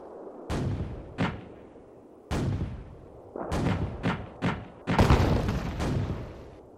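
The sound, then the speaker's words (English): Booming gunfire and artillery blasts crack out in an irregular volley, each loud burst rumbling off, then a dense cluster of overlapping explosions near the end; no voices. “It was fireworks between the black country in the far west and the red country in the north.”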